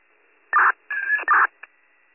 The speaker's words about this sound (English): I was going to ask if you need re-alerts, but I'm currently dropping tones for a first re-alert.